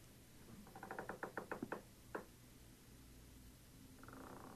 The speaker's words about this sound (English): I think that is my knees and my colon. Oh, no, that's just the sound of my chair kicking underneath me. Okay. Not paranormal, by the way.